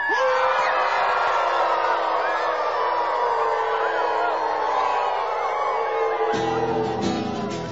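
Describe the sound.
A crowd of many voices howls together like a pack of wolves, welcoming the wild wolf back to Washington, a dense, wavering chorus of long rising and falling cries that stays loud and steady for several seconds before breaking into scattered whoops.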